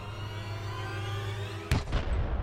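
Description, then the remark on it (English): A steady low hum drones along, then a single sharp, loud gunshot cracks out near the end, very close to a hunting camp, followed by a brief rumbling echo and scattered rattling. “I was awakened by a gunshot and the gunshot was very close to the camp.”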